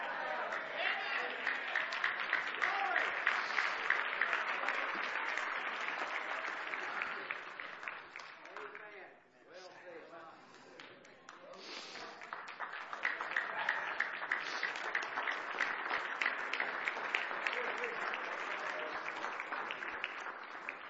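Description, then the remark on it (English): An audience claps together in a dense, steady roar of hand clapping that briefly thins out about midway, then swells back up and carries on loudly to the end. “That hand clap was pretty pitiful.”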